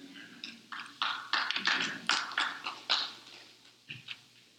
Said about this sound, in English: I'm not sure how to respond to the half clap, so. So I'll join you.